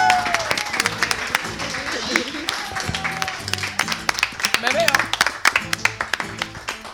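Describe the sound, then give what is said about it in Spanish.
An audience applauds steadily for several seconds, a dense crackle of many hands clapping, with some murmuring voices mixed in and the clapping growing a bit louder toward the end. “Pero me encantaría irme con un aplauso. Ahora sí que sigue fuerte.”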